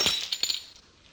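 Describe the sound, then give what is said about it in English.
A drink glass is knocked over with a few sharp, bright clinks and a brief rattle, then settles into a faint ringing. No one speaks. “Joe, you've upset your drink.”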